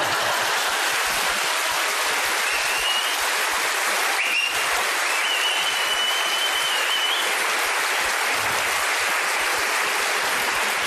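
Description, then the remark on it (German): Sustained applause from an audience, a dense steady wash of many hands clapping for about eleven seconds with no voices, staying loud and even throughout. “Lassen Sie sich nicht von der Geste davon abhalten, zu klatschen.”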